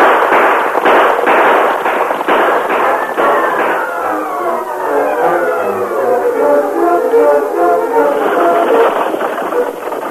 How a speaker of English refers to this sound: Inside the stage, Ebenezer was startled when the gunfire was heard.